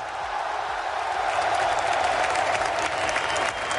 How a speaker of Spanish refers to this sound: Bueno, era la ovación que arrancaba Xavi Hernández de esa afición que estaba en el Estadio del Camp Nou.